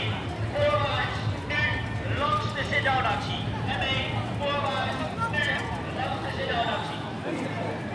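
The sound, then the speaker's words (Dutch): Police horses' hooves clip-clop steadily on hard ground on a square amid a busy crowd, as police on foot and on horseback, with riot vans and water cannons, encircle a seated group of people. Voices murmur and talk throughout, the hoofbeats partly buried in the chatter. “Door agenten te voet en te paard, ME-busjes en waterkanonnen.”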